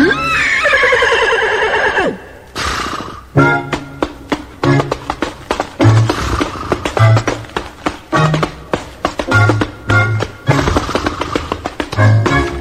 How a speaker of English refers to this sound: Maybe not, but listen to me keep time with my hoofs.